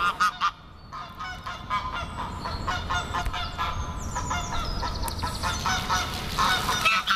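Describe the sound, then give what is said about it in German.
A curious gander honks repeatedly, loud harsh calls overlapping in a busy, agitated stretch with a steady low background rumble and no speech. “Ein neugieriger Ganter sorgt für Unruhe.”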